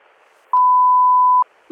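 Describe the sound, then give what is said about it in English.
A single loud, steady electronic telephone off-the-hook warning tone holds for almost a second over a faint background hum, then cuts off and is followed by a brief noisy burst. “I was just walking down the hall and the phone was off the hook.”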